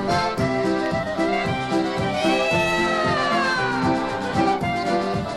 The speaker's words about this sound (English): miau, miau, miau, miau, miau, miau, here's our quartet now. That's our kittens, when they're sitting, they don't sing bow bow.